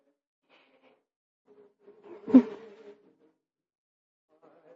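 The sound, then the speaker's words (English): An arrow whizzes through the air in a quick buzzing whoosh that swells to a sharp peak and fades within about a second, heard alone against near silence. “But that was an arrow.”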